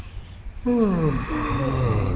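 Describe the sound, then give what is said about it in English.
A single drawn-out yawn at the end of a Yoga Nidra practice, fairly loud, rising out of quiet into a breathy voiced tone that slides downward and trails off, with no talking. “Nice yawn.”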